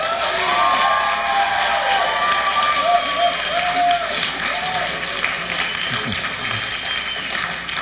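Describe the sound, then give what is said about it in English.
Steady, dense audience applause fills the whole stretch at an even level, with crowd voices and scattered cheers mixed into the clapping. “Well, after that applause, I think I will do my version of Nessun Dorma for all of you.”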